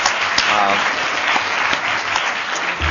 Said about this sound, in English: We just give everyone a quick round of applause. So thank you for coming today.